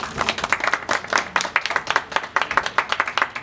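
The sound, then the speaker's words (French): An audience of members, friends and staff of the MapMonde association applauds steadily, many hands clapping in a dense, crackling patter that stays fairly even in loudness throughout, with no voices heard. “Et je pense qu'on peut faire un grand applaudissement pour toutes les personnes qui sont là à la MapMonde.”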